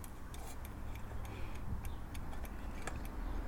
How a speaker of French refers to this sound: Pas l'air de marcher. On entend le tic-tac, par contre.